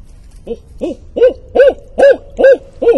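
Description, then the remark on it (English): In a bayou, a person mimics a barred owl to call one in, giving seven loud, evenly paced hoots in a steady rhythm, clear with no talking around them. “Maybe I'll try to hoot him.”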